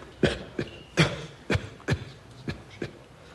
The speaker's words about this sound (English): If you could attempt to suppress your cough.